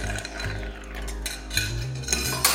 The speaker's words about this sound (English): Use any brandy you like. I'm more of a cognac guy myself, which is brandy from the Cognac region of France. I'm gonna do 2 ounces, add ice, give this a good stir.